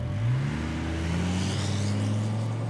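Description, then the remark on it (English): A car engine revs up and accelerates steadily, its low drone rising in pitch as the vehicle pulls away, loud, with no voices. “Please, get out of my car.”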